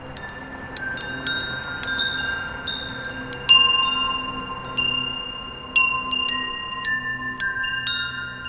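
Tuned metal chimes ring out a slow melody, each clear strike followed by long sustained, overlapping tones that decay gently. The notes are close and fairly loud, with a soft rustling background.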